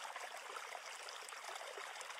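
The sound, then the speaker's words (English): A gurgling stream flows steadily, a continuous bright rush of trickling, bubbling water at an even level throughout, with no voices and no breaks. “I'm a huge fan of like streams, gurgling streams, Zen fountains, like that specific sound really relaxes me.”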